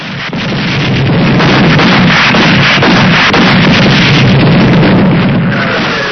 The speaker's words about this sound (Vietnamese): Tiếng bom nổ rất gần.